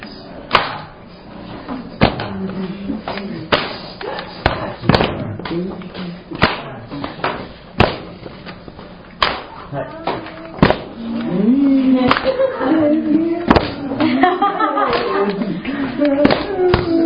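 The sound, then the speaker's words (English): A steady hand-drum rhythm of sharp slaps and deeper booms, with accented hits falling on alternating beats; a voice talks over the pattern, growing more prominent toward the end. “You go like that, except you accent this one on every other, on the off downbeat, you give a slap. The boom.”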